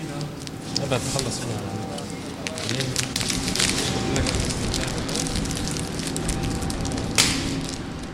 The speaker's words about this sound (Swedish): river ner skylten